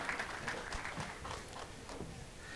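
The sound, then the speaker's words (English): An audience claps for the people standing up, in a steady, dense patter of many overlapping hand claps, fairly soft and even throughout with no one speaking over it. “Let's hear a clap for all the people who are standing up.”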